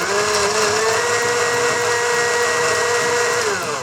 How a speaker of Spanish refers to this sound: Cortamos todo en trozos grandes y lo colocamos en la licuadora junto con el ajo, el vinagre, el aceite, la sal, la pimienta y el agua fría. Y procesamos todo hasta obtener una mezcla suave y homogénea.